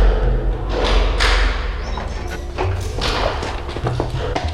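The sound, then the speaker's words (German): Solid knocks and metallic clicks like a key turning in a lock, followed by a heavy door thudding and creaking open, with a few more scattered bumps after; the door of a boiler room being unlocked and opened. “wussten nicht, wie lange sie schon im Heizungskeller ausgehalten hatten, als die Tür wieder aufgeschlossen wurde.”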